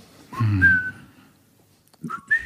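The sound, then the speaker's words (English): A person whistles a short melodic phrase from a theme tune, a few sustained rising notes, pauses briefly, then resumes with two more quick notes; no one talks. “I don't think I can whistle it. Yeah, it's an interesting one. Why don't you try? You should try, maybe.”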